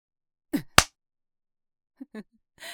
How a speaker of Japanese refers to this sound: チンポでビンタされて驚いてるのか。自分よりはるかに大きいチンポでビンタされるって。どんな気持ち？痛そうだな。